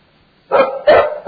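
A dog barks twice in quick succession, loud, with the start of a third bark cut off at the end. No one speaks.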